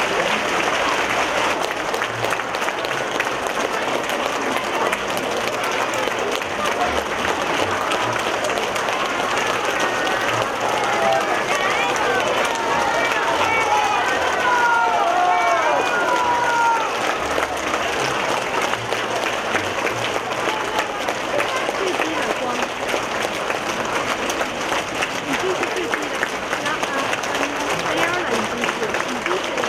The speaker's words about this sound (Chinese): 下面让我们用最热烈的掌声恭请尊敬的卢军宏台长。